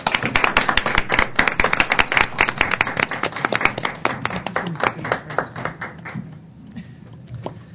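Audience applause at a Colorado board meeting congratulating the 2015 Colorado Teacher of the Year: many hands clapping in a dense, steady burst that stays strong for several seconds, then thins and fades away toward the end.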